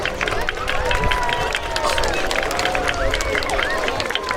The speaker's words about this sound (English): A round of applause for our mayor.